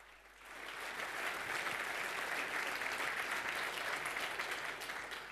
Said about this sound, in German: Applaus für